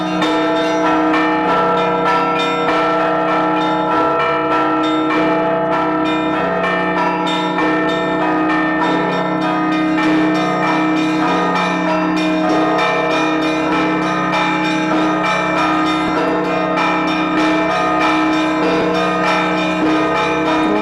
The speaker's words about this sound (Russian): На основе этих традиций звонарь импровизирует и использует их для богослужебных звонов.